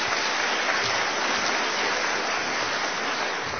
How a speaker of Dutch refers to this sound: Dank jullie wel voor dat jullie dat wilden vertellen. En ik wou graag applaus.